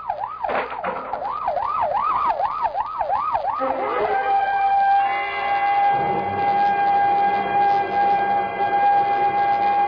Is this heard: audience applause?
no